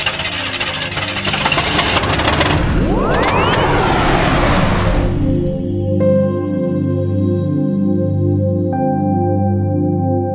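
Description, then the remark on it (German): A sci-fi rocket launch effect of a rocket-powered phone booth taking off for a trip to the Moon and back: a loud, roaring rush of noise with a whine sweeping upward, then a steady, throbbing engine hum with pulsing low tones and sustained high notes. “Steigen Sie ein in Theos raketenbetriebene Telefonzelle. Einmal Mond und zurück. Los geht's!”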